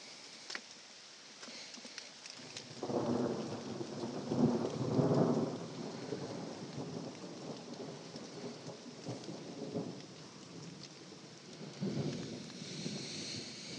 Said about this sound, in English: Wow, another big flash. Let's hold out for one more clap of thunder.